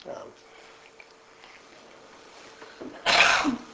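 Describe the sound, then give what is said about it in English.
A single sharp sneeze bursts out near the end, loud and breathy, following several seconds of quiet room tone with faint shuffling. “Bless you.”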